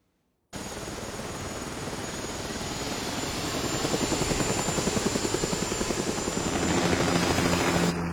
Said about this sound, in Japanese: ヘリには慣れたか。 下を見ないようにしてます。